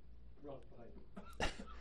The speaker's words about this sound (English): you can go ahead and cough and not worry about the entire program ending.